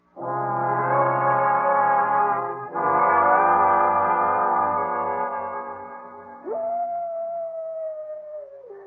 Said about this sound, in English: It came from the canyon. It's only a coyote.